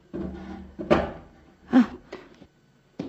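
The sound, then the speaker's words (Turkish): A wooden chair is dragged across the floor, scraping in short pushes with two sharper knocks as it is pulled closer, then everything falls quiet. “Şöyle yaklaştırın sandalyenizi.”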